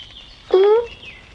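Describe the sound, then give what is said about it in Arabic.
A small bird lying on ice, still alive and moving, gives one short, clear, whiny call lasting about a third of a second, fairly loud against a quiet background. “الحمد لله، طائر صغير.”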